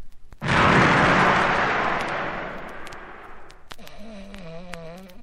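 A single loud mortar shot booms out abruptly and rolls into a long, fading rumble, followed by a faint, wavering high tone near the end.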